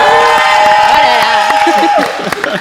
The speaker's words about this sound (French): On a un public ce soir, faites du bruit s'il vous plaît.